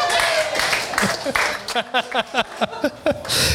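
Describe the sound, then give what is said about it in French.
An audience at a live show recording at La Petite Bouteille, a venue for beer and food, applauds the venue, clapping in a dense, steady wash at the start and again at the end, with voices calling out in short bursts over it in the middle. “Mais on applaudit la petite bouteille!”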